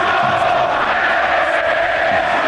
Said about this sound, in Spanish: Lo de Mono Mono gritó una buena parte del estadio.